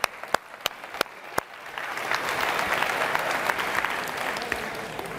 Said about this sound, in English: Okay, thank you, let's clap it up.